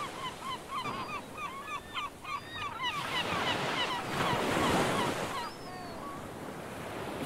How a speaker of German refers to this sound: Du hörst nur noch den Wind, das Wasser und die Vögel der Insel. Du stehst auf dem Schiff und bestaunst die Vogelschwärme.